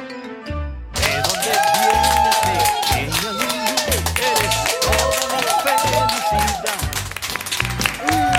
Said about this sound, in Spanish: ¡Qué emoción! Oye, funcionó el aplauso colectivo.